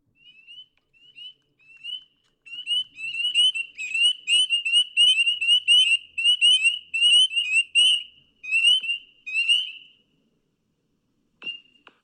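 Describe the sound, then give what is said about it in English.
Frogs sing outdoors in a steady run of rapid, high-pitched trilling calls that overlap and repeat for several seconds, then fade to quiet with one last brief call near the end. “Those are frogs.”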